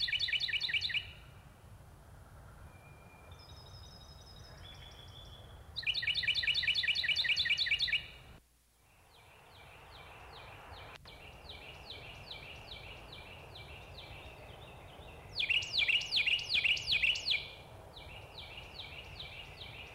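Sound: carolina wren song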